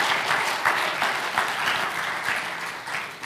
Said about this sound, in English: Yeah, give the Lord a clap.